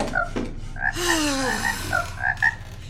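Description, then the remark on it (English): A frog croaks repeatedly, a series of short, nasal, tonal calls, with one longer drawn-out croak in the middle, over a low background rumble. “If you're hungry, use your little legs to hop out there and catch some.”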